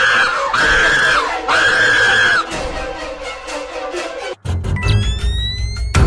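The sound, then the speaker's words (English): Two long, loud, high-pitched screams in quick succession, each held steady for about a second, followed by a noisy, clattering stretch with rising whistling tones. “Stop screaming! Stop!”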